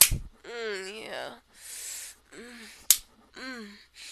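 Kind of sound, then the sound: impact, hand slapping bare skin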